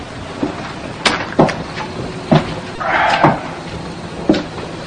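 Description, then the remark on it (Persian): A refrigerator door is pulled open with a few sharp clunks and knocks, followed by a brief rattling shuffle as a bottle of beer is lifted out to drink, then one more soft thud. No one speaks. “بعد میره سر یخچال و یه بطری آبجو بر میداره تا بخوره.”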